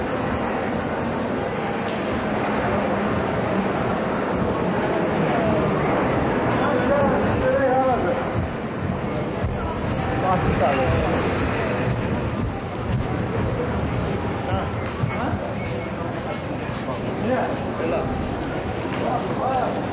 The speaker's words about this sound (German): Unterlegt sind die Geräusche einer U-Bahnfahrt von Baki Sovieti nach Achmedli.